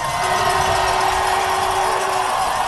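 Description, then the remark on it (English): A four-man bobsled rumbles through the last turn of the track in Whistler, Canada, a steady, loud roar of runners on ice with a sustained humming tone riding over it for about two seconds, crowd noise mixed in. “That rumble is the sound of the sled going through the last turn.”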